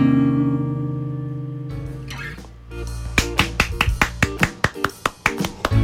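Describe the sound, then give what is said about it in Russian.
A held musical chord fades out at the end of a song on the radio show Musical Friday, then a short burst of applause follows: a quick, slightly uneven run of sharp, loud individual hand claps, about fifteen of them, with no voices. “Долгие продолжительные аплодисменты от меня за меня и за всех тех ребят, которые находятся по ту сторону радиоприемника и слушают музыкальную пятницу.”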